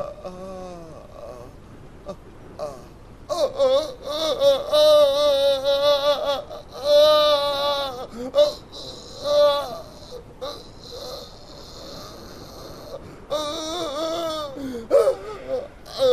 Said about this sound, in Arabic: اتركه، لقد انتهيت. كفى بكاء.